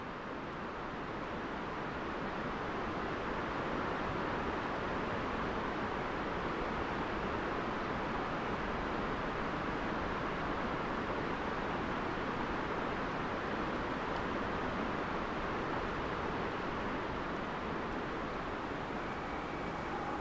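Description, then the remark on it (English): A steady, broad roar of the whole river that drains the rainforest, heard from further away and echoing off the far side of the valley, continuous and unchanging for the whole stretch with no voices. “And then we'll hear further away the sound of the whole river that drains the rainforest, echoing off the far side of the valley.”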